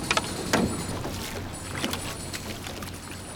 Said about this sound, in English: On land, they're a couple. But on the water, they row as one.